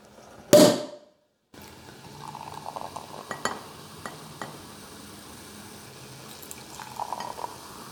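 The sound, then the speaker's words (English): A sharp pop near the start, a brief silence, then champagne pours and fizzes into a glass, with soft clinks and bubbling continuing without any talking. “Do you think champagne goes with Indian food?”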